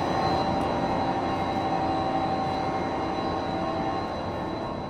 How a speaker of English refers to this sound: So what we're going to do now is we're going to go into the pump station. And I'm not going to talk too much in there because it's kind of loud. Noise. Why are they making so much noise? Yeah. That's just the hum of the motors themselves.